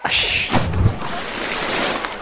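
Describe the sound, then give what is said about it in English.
A quick watery splash with a burst of bright spray noise, followed by a sustained wash of churning water, fairly loud, with no voices. “I had to splash, man.”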